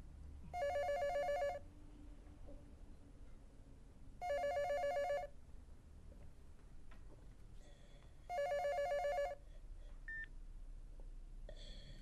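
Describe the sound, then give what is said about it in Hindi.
A telephone rings three times before an answering machine picks up, each ring a short burst of bright electronic trill separated by pauses of a few seconds, over a faint low background hum, with no one speaking. “Beep की आवाज सुनने के बाद अपना मैसेज रिकॉर्ड करवाइए।”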